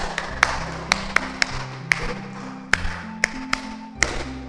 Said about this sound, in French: Très bien. Applaudissons pour notre ami.